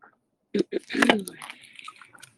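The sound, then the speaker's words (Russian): Drinking sounds of a sip of water: a couple of soft wet clicks, then a short slurping sip and a swallow, fading into quiet mouth noise. “Глоток воды.”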